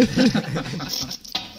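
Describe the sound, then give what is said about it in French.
At home, a voice murmurs briefly, then dishes and cutlery clatter in two or three sharp, bright clinks near the end, fairly loud. “il faudra quand même penser à ranger la vaisselle, écoutez bien.”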